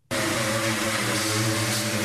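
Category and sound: tool, industrial sanding tool running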